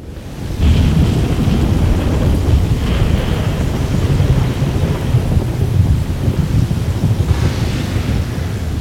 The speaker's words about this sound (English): Lord Scourge raised the hood of his cloak as he stepped off the shuttle, a shield against the wind and pelting rain. Storms were common here on Drummond Cos.